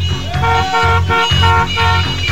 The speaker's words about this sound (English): Hey, let's hear some horns out there, huh? Come on.